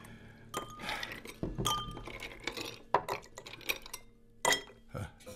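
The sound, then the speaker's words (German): Two ice cubes clink into a glass, a few bright, ringing knocks spread over several seconds, amid soft clatter and faint background voices. “Einen Eiswürfel? Nein, zwei.”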